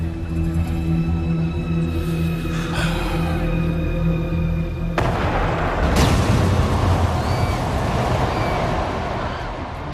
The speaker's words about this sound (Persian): اونا توپایی جنگی نجیبه، فکر کردم باید مشقی باشن. مشکلی نیست، به شرطی که همدیگر رو نشونه نگیرن. خب کنترلش سخته.